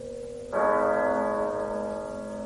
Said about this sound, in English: But as the bell sounded, light flashed up in the room.